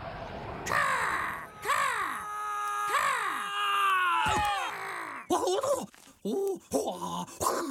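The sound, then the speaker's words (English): A raven caws repeatedly and loudly, with harsh drawn-out croaks in a slow irregular rhythm, followed by a burst of quicker, choppier calls. “Oh, forgive my poor manners, Mr. Raven. And what are you called?”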